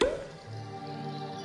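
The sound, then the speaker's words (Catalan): A single sharp, fairly loud cork pop right at the start as a cork comes out of a bottle, followed by a steady, sustained musical tone that carries on underneath for the rest of the moment. “Destapa.”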